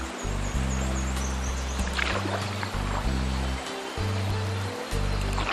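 Steady rushing river water with a few soft paddle splashes as a canoe moves along, with a low, sustained musical tone running beneath throughout.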